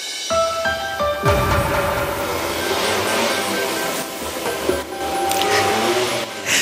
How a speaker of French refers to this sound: Mais le souci, quand on ouvre la fenêtre et qu'on prend l'antenne, c'est que s'il y a un véhicule qui passe dans la rue à ce moment-là et qui fait un petit peu de bruit, ça s'entend. Écoutez, c'était à 18h15, mercredi soir.